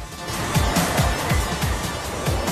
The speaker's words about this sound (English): On an American street, cars trundle along a busy road.